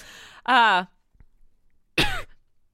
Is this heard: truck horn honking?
no